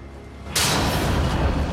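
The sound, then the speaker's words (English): A light is knocked out in a darkened hallway: a low, quiet rumble gives way to a sudden loud smash, followed by a sustained harsh, noisy wash that lingers to the end with no voices. “Jeff knocks out a light.”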